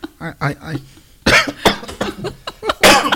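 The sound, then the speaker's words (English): A person coughs several times in harsh bursts, two strong ones and a final loud cough, following a moment of voiced talk. “I said I wasn't going to argue, and then I had to cough.”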